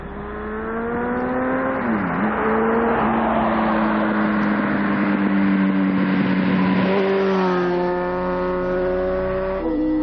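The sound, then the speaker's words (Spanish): A car drives along a regional country road with a speed limit of 90, its engine a steady, loud drone with a brief dip in pitch early on and another shift near the end, mixed with tire and road noise. “Es una carretera comarcal, es una carretera comarcal donde se puede correr a 90.”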